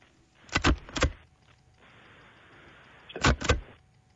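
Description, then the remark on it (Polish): A paper hole punch is pressed twice, then twice more after a pause: short, sharp mechanical clunks with a broad crunching snap, fairly loud, with a faint hum between them and no talking. “To jest dziurkacz? Bardzo dobrze. Dziurkarz do papieru.”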